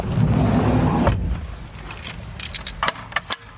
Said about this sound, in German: Zu Hause hieft Stefanie Ruhmann den wuchtigen Buggy wieder aus dem Auto